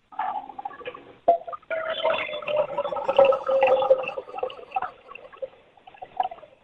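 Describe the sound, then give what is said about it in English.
Warmish water pours from a tap into a neti pot in a bathroom for several seconds, a steady splashing stream whose tone rises slightly as it fills, with no talking. “If you could just fill that neti pot up with some warmish water.”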